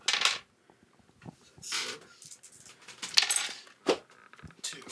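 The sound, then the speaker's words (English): Several separate bursts of dice, including a white and a red die, clattering and tumbling across a hard tabletop as each player rolls in a tabletop game, fairly crisp, spaced out with brief quiet gaps and no voices. “Everyone roll the dice for the aftermath.”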